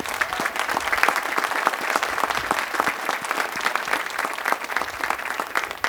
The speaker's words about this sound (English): Round of applause.